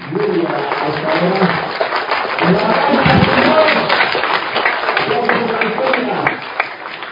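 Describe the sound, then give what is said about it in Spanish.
A standing audience at a temple gathering applauds steadily and loudly for several seconds, a dense wash of clapping mixed with cheering and shouting voices throughout. “Y de pie le den un aplauso al gran mensajero de arribajo porque no ha pasado nada.”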